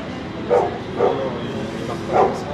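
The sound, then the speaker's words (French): A sniffer dog that marks narcotics gives three short, sharp barks spaced unevenly apart during a bag check, over a steady background of low noise. No one speaks. “Oui, mais, non, mais madame, le chien ne marque pas les cakes à la banane, il marque les stupéfiants.”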